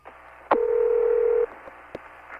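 A sharp click, then a loud, steady telephone tone hums for about a second before cutting off, followed by another faint click on a quiet line, as a call is placed to a police Special Investigation Section.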